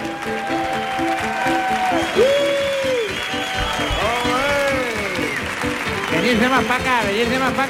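A crowd claps loudly and steadily for several seconds, with shouts, whoops and whistle-like cheers rising over the continuous applause.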